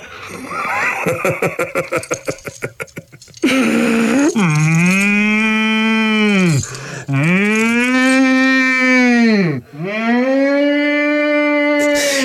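A few seconds of rapid, rhythmic snorting pulses give way to a bull bellowing loudly in three long, drawn-out, deep calls, one after another.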